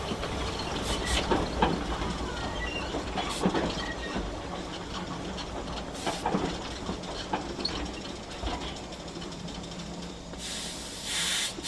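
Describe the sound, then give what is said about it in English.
A steam train rumbles steadily along the rails through rainforest in Tasmania, Australia, with rhythmic clickety-clack and metallic clanks, then a loud hiss of steam bursts out near the end. No one speaks. “My role today is fireman on the train.”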